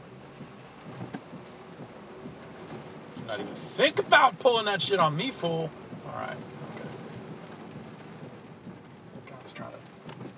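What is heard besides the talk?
rain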